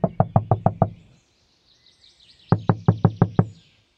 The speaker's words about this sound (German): Er nickte erneut ein und erwachte schlagartig, als jemand gegen die Beifahrertür klopfte.